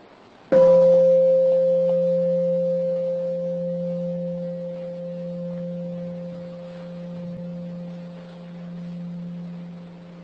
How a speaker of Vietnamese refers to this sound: Cái tiếng chuông nó cũng giúp mình thư giãn nếu mình biết cách nghe. Chỉ lắng lòng nghe và để cho tiếng chuông đi vào tâm thức mình một cách tự nhiên, mình chỉ có sự cảm nhận thôi.